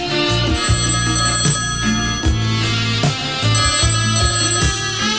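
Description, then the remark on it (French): A telephone rings steadily for several seconds, its repeated electronic trill loud with a musical, tonal warble and no voices over it. “Et puis il y a le téléphone rose.”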